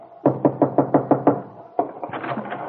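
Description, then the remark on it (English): Kit Mead drums her fingers nervously on a window pane in a bungalow at the Wakefield Auto Court, a quick, even run of about seven sharp taps, followed by a brief pause and a softer, more continuous rustling sound. “And at that same moment, in a bungalow at the Wakefield Auto Court, Kit Mead is standing at the window, drumming nervously on the pane, wondering what has happened to her husband when...”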